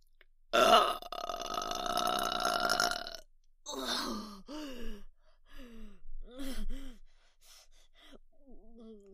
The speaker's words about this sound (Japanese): こんなにたくさん飲んだらすごいゲップが出そうです、ね。お腹の奥から上がってきます。あー、出る出る出る、もう寝てしまいます。